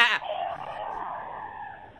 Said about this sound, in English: Is there a goat where you're broadcasting from right now?